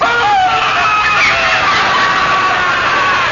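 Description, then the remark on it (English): A voice imitates a bird with loud, nasal, honking and squawking calls that waver in pitch, delivered continuously for a few seconds, with no ordinary speech. “I do bird impressions too, you know.”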